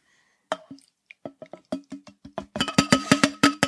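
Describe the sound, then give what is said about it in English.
A bottom-pour beer dispenser filling a cup: a run of wet, gurgling glugs that start sparse and quicken into a steady rapid bubbling, growing louder, with no voices. “That sounds like a bottom pour.”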